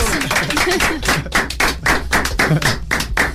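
Audience applause: a steady, fairly loud patter of many hands clapping at once, with sharper individual claps standing out, continuing without a break for a few seconds.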